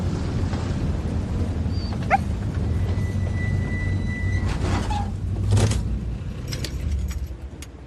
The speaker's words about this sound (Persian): این سگم ساکت کن.